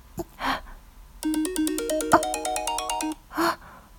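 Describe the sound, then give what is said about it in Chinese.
A mobile phone ringtone from an incoming call by a woman's husband plays a bright, rising electronic melody of quick stepped notes for about two seconds, set between soft breathy gasps before and after, with no talking. “有电话来了，我已经调静音了。”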